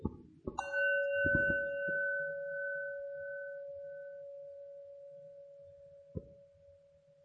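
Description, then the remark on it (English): A single bell strike rings out with a clear, sustained tone that hangs in the air and fades slowly over several seconds, with a soft knock near the end and low background rumble. “The Buddha instructed Rahula to strike the bell once.”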